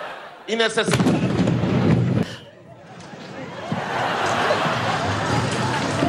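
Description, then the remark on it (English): A sudden, loud explosion booms during Maduro's military parade in an attack on him, rumbling for a couple of seconds, then gives way to a steady wash of crowd noise and shouting. “But did you see how they reacted when the explosion goes off?”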